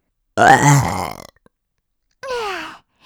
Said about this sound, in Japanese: あたしのゲップを聞いて喜んでるみたい。